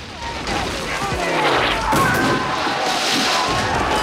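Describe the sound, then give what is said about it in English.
A loud, dense roar of battlefield explosions and gunfire on a beach as the 54th Regiment charges a fort under cannon fire and Confederate soldiers charge back, with booms and crackling shots piling over each other in continuous chaos, and voices faintly mixed into the din. “Trip and John sprint across the beach as massive explosions rip through the ranks, blowing their formation apart.”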